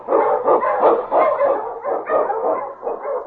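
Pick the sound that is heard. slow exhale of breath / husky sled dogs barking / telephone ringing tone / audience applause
husky sled dogs barking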